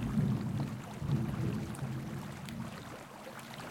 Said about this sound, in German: Ich glaube, dein gutes Mikro hat auch diesen Donner aufgenommen. Ist ja fast wie ein End of Days.